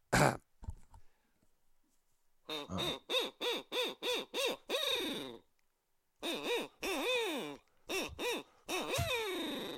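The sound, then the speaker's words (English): A handheld owl call, used to locate gobbling turkeys, blown in two loud bursts of rapid, rhythmic hoots, each note rising and falling, with a short pause between the series and a couple of thumps at the start. “That's an owl. It's an owl call.”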